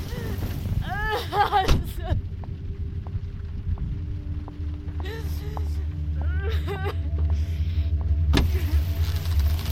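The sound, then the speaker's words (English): A car engine idles with a steady low rumble while a door thuds shut, followed later by another sharp slam; faint whimpering vocal sounds rise briefly over the hum. “Get in the car.”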